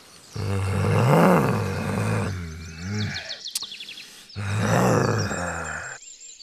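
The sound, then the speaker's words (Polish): A wolf growls twice, loud, each deep snarl lasting about two seconds, with birds chirping briefly in the pause between them. “Kiedy dziewczyna weszła do lasu, od razu podszedł do niej wilk.”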